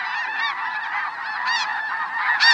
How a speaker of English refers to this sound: Whoa! There goes an eagle toward the flock. What a clamor as the frightened geese lift up in unison.